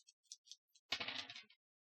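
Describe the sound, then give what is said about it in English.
A few light clicks, then a quick clattering rattle of two six-sided dice tumbling across a hard surface, fairly loud, settling after about half a second, rolled for a hacking check in a tabletop role-playing game. “So 2d6 +7.”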